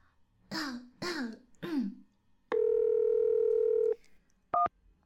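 Three quick throat clears, then a steady phone dial tone hums for over a second before a single short keypad beep as a call is placed to someone's mother, all clear with no talking.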